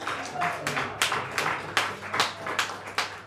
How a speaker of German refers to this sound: Und dafür können wir schon mal klatschen.